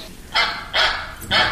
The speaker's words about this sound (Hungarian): Kacsa. Nagyon jó.